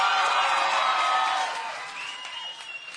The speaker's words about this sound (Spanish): Todos ustedes, fuerte aplauso para todos ustedes.